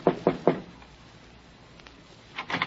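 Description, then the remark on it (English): Three sharp knocks on the wooden door of Condano's office in the morning, in quick succession, then a pause and another quicker cluster of knocks, clear with no one speaking. “A sad old biddy with a mop told me Condano was in his office, so I knocked on the door.”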